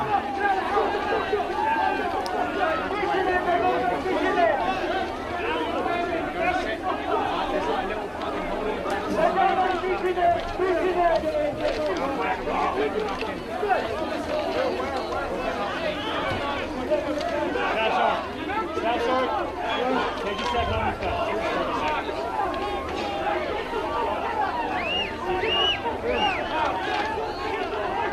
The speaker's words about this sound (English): they needed to be there to control the large, desperate crowd and enable the evacuation to continue at Abbey Gate.